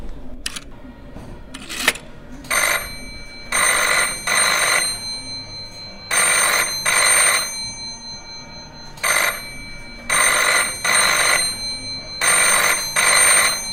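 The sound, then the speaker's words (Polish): An old rotary telephone bell rings loud in repeated double bursts separated by short pauses, preceded by a few brief clicks after its dial is turned, with no one talking. “To spróbujmy przekręcić tą tarczą, może jakiś numer uda nam się wybrać, może zadzwoni ten telefon.”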